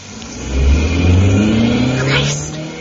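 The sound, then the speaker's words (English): An Alfa Romeo car engine revs up and pulls away, its low droning pitch climbing steadily as it accelerates over a few seconds, loud and continuous with no voices. “I can drive. I always feel secure in the Alfa Romeo.”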